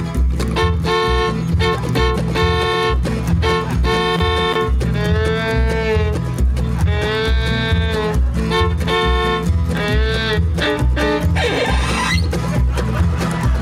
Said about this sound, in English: riding up and down the side of the railroad track, brand new GMC, picking up truck, roll bar, and a bucket seat, and a minute hand telling it like a porcupine with a thyroid condition. And he's blowing his horn trying to get the cow off the track.